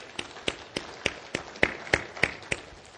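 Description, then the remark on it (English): Steady rhythmic clapping from a church audience giving God a round of applause, about ten sharp claps in three seconds at an even beat, over a faint wash of background noise with no talking. “I think that's worthy of giving God a round of applause. Can we do that together now?”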